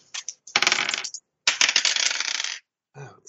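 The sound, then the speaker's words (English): Dice clatter and tumble across a tabletop in two quick bursts as players make listen rolls in a tabletop role-playing game, a bright rattling skitter that settles before a faint final clack. “Can I get, as you are running down the stairs, can I get listen rolls from all three of you?”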